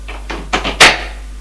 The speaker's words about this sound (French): Ouvre une porte.